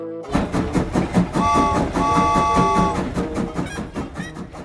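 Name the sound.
train clickety-clack on rails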